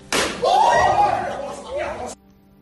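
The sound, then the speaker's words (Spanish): A sharp, loud slap with an open hand full of shaving foam lands once on a female student at the Colegio Mayor Diego de Covarrubias in Madrid, a hazing called "hacer un Williams", then a voice immediately cries out in a drawn-out, wavering yell that fades after about two seconds. “Porque el golpe se propina con la mano abierta y llena de espuma de afeitar.”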